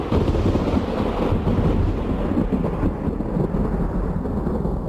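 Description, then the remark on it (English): A loud, sustained roll of thunder sound effect for a lightning bolt rumbles deep and steady for several seconds, with a dense noisy wash like heavy rain or wind over it. No one speaks. “Lightning bolt.”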